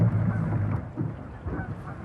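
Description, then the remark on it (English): Geese honk repeatedly on the Chesapeake, heard from a boat with its motor off, over a low, steady rumble of wind and water, their calls overlapping in short bursts. “Sounds like those birds have a motor all their own.”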